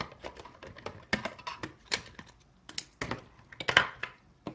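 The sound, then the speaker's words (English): A screwdriver bangs and clunks while an electronic device with probes is taken apart through two screw holes on its bottom: a quick, irregular run of sharp clicks and knocks, some light and some heavier, with brief pauses between bursts and no talking. “I might cut out the silence, or you might get to hear like banging and clunking of screwdrivers.”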